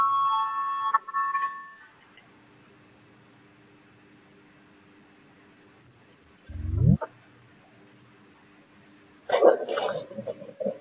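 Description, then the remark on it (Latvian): A parliament voting bell, rung to call a vote on proposal 40 submitted by the Cabinet of Ministers, sounds as a short, steady electronic tone at the start, followed by quiet hum, a brief low rising sweep, and a noisy burst of rustling near the end. “Lūdzu zvanu, balsosim par 40. ministru kabinetu iesniegto priekšlikumu.”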